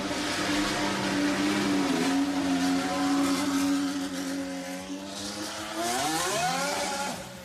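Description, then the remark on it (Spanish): A Renault Formula 1 car engine at Montmeló screams steadily at high revs, then its pitch shifts and climbs sharply near the end as it accelerates, loud with no voices. “Así sonaba esta mañana su coche en Montmeló.”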